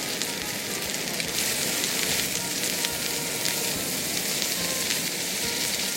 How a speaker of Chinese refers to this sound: 如果有香味以后，马上就将猪脚肉把它放进锅里面一起拌炒。